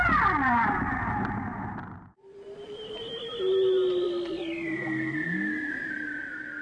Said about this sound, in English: Off the coast of Bermuda, 2,000 feet down. These are humpback whales singing in a tropical storm.